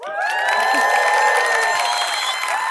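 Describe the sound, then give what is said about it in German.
A live audience in a cinema in Berlin bursts into sustained applause with cheering and whoops, a dense wash of clapping and high voices that stays loud and steady throughout. “wir sind heute nicht in unserem muckeligen Studio, sondern wir sind live vor Ort im Kubix Sinister Kino in Berlin mit Publikum.”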